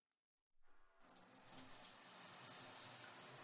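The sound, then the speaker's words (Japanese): After a brief silence, a shower starts up and water sprays steadily in a loud, continuous hiss, rinsing a person's hair while their eyes are shut, with no voices present. “ではではシャワーで流しますから、目をギュッとつぶっていてくださいね。”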